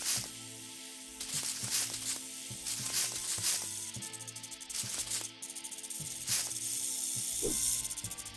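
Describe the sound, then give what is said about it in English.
A video game snake hisses in several short, sharp bursts over steady, looping electronic game music, with no one talking. “Oh, over the snake.”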